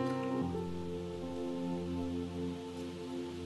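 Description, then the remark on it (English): An audience at a morning gathering claps for themselves, steadily for a few seconds, a dense wash of applause with no speech, while sustained musical chords hold underneath throughout. “Would you clap for yourself?”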